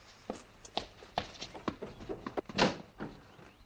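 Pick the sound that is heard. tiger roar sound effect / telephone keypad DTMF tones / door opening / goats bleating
door opening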